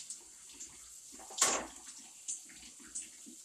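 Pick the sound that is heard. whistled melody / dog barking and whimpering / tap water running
tap water running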